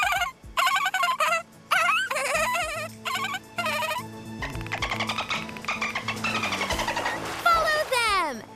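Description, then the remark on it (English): A voice, the character Skipper, imitates dolphins with a run of high, squeaky chirps and whistles in short bursts, ending in fast rising and falling clicks and trills, over a steady low hum. “Skipper makes dolphin sounds.”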